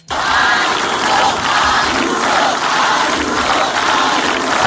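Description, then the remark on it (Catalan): A large rally crowd at a political event in Madrid roars with sustained cheering and applause for Isabel Díaz Ayuso, loud and dense throughout, with shouting voices blending into a continuous wash of noise and no single speaker. “Doncs bé, la més aplaudida va ser, una vegada més, Isabel Díaz Ayuso.”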